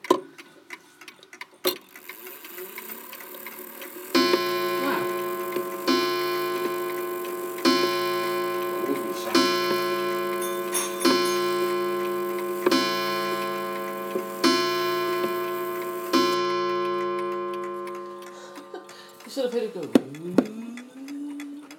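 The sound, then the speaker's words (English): A clock ticks with soft clicks, then someone makes it chime: a series of resonant chime strikes rings out at a steady pace, each tone sustaining and overlapping before fading, with a brief rustle at the end. “Nice tick there.”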